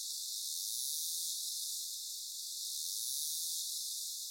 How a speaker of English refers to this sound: The next type is called click burst or terminal buzz, which to my ear sounds like a chainsaw.